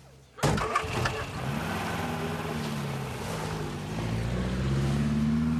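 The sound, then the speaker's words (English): The engine of a small blue Ford car parked outside a public building catches abruptly after a moment of quiet, then runs on loudly with a steady droning hum that swells slightly toward the end as it pulls away. “He hangs up on his pretty blonde sister and gets into the family's small blue Ford parked outside a public building.”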